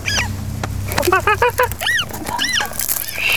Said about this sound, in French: Est-ce que tu entends les oiseaux? Oui.